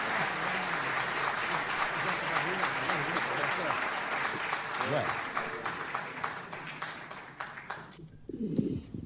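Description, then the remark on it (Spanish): A crowd claps steadily and loudly for several seconds, a dense wash of applause with voices mixed in, then it thins out and a voice speaks near the end. “A ver, para que se le vaya la timidez, vamos a aplaudirlo por lo menos.”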